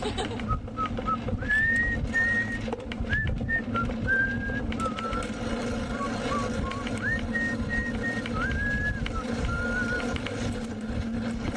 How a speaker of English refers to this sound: No, you know what I have? I have whistling tunes. Whistling tunes? Yeah. I just have like a little phrase that I'll whistle, either from an actual song or just something that I make up.